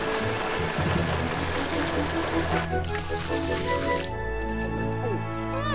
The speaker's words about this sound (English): Now we add ice cubes and frappe!